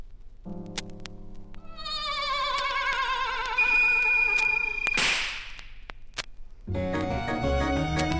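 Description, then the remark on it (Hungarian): A single sharp whip crack snaps out loudly after a rising, whistling tone, then bouncy music starts up, as Pingvin cracks his whip for a dancing pony in a pony riding act. No one speaks. “Pingvin pattint ostorával, hoplá, táncol már a póni.”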